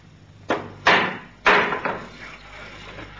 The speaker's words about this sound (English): What was that? Someone at the door. But no one comes here at this hour. It sounds like a child knocking.